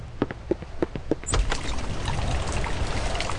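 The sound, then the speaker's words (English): Steady rain pours down in a dense, even hiss that swells after about a second, preceded by a few sharp, evenly spaced taps. “Sophia, it's raining.”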